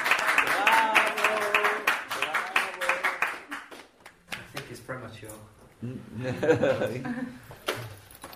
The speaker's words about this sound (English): Full applause.